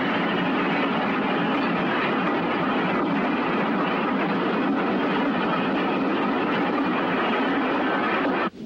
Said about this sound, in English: Meanwhile, the armored train forges through the French countryside.